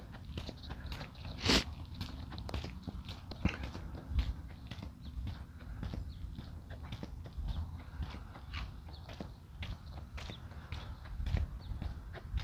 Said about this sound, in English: I haven't heard rolling thunder in I don't know how long. Most of the thunder around here is sort of like boom and it's over. And this is like boom bala boom bala boom bala boom bala boom bala boom bala boom bala. Windows rattling.